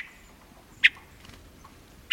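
A hermit thrush gives two short, sharp call notes about a second apart, clear against a quiet background with no one speaking.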